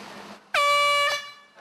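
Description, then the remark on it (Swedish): A single loud air horn blast at Lidingö golf club as people were about to play golf, with a bright, brassy harmonic tone, held steady for about half a second before cutting off, with faint background noise around it. “Ja, de drog till Lidingö golfklubb och bara drog en sån tut.”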